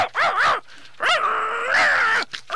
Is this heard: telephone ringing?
no